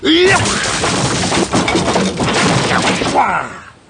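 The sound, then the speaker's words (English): A slightly worn wooden chair being smashed: a loud, continuous burst of cracking, splintering and heavy thuds lasting several seconds, with a brief shout at the start, before the noise tails off. “That also was a useful chair. Slightly worn, but perfectly serviceable.”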